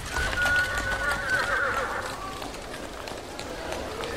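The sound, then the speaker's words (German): A horse whinnies loudly for about two seconds over a steady bustle of big-city street traffic from before cars, with horse-drawn carts, horse omnibuses, cabs and many pedestrians; indistinct voices and traffic-like clatter continue after the neigh fades. “Viele Pferdefuhrwerke, Pferdeomnibusse und Droschken waren unterwegs.”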